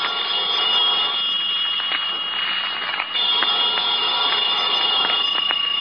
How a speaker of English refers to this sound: About noontime, when the phone rang, I knew it was the clerk downstairs calling because I'd left a call for 12. I let the phone ring.